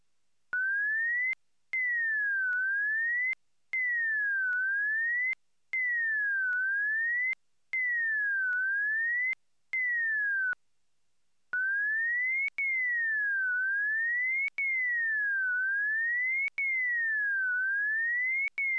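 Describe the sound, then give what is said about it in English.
A clean, steady pure tone glides up and down in a repeating zigzag for an auditory demonstration, with portions of the glides deleted and replaced by short silent gaps, small clicks at each cut. There is no speech; the tone is alone and even in loudness. “The second has a shorter portion deleted than the first does, so that the remaining parts of the glides reach a higher frequency than in the first example.”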